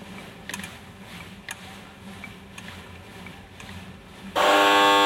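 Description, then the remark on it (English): A loud, harsh boxing round buzzer suddenly blares and holds steady through the end, marking the start of a three-minute round of bag work, after several seconds of quiet background with a few faint clicks and taps. “So we're going to get set when the buzzer starts.”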